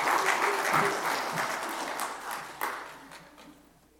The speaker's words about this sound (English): Yeah, let's go ahead and give these two gentlemen another round of applause. They did a great job this morning.